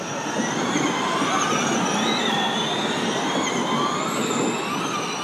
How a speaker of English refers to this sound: That whooshing is the sound of 22 space-age-looking, fully electric hunks of carbon fibre slicing their way through the Monaco streetscape.